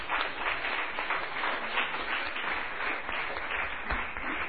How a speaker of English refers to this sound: And that deserves your applause.